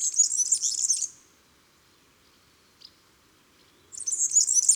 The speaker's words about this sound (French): Parmi les premiers migrateurs à revenir, en mars, on ne peut pas manquer le serin et son chant très particulier.